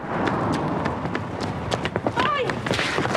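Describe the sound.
Quick, rhythmic footfalls of a woman running hard across a road at a crossroads in a residential area, fairly loud, over a busy noisy background with muffled voices and a brief high whine midway.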